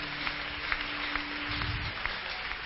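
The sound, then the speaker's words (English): An audience claps their hands together in a steady, dense wash of applause, fairly soft and even throughout, with a faint low hum underneath. “Hey, clap your hands now.”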